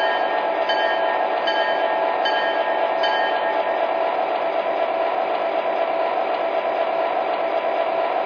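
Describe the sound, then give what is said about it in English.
The engine of train number 19, the Ambassador, gives a steady mechanical drone with a constant ratcheting, gear-like clatter, loud and running unbroken throughout with no voices. “Train number 19, the Ambassador.”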